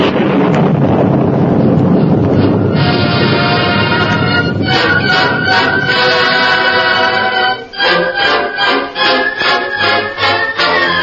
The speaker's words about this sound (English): Listen. Thunder. Yeah, thunder. And that means rain instead of the scorching sun.